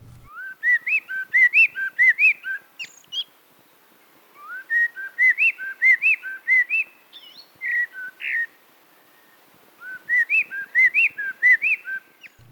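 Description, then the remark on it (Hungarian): A songbird sings clear, fluting whistled phrases in three bursts, each a quick run of rising and falling notes that includes a rare broken-triad (arpeggio) figure, heard alone against a quiet background. “Következő egyed énekében ritka hármas hangzat felbontást találunk.”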